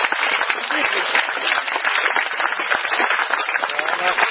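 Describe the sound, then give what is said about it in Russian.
A lecture audience applauds steadily for the lecturers called up at the end, a dense wash of many hands clapping at a constant loud level throughout, with a few scattered voices mixed in underneath. “А давайте мы пригласим всех лекторов сюда, а вы нам поаплодируйте.”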